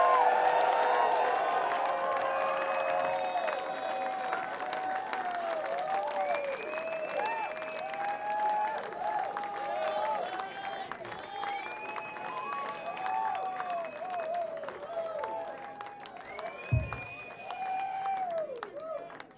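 A large concert crowd claps steadily and cheers for the band, with shouts and rising whistles over a dense wash of applause that stays loud for the full twenty seconds.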